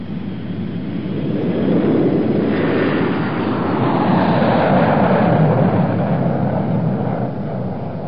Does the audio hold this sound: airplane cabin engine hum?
yes